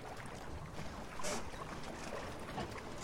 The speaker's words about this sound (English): It's a sailing boat, all white, with 8 seats. It's made of heavy plastic glue and I don't know what else.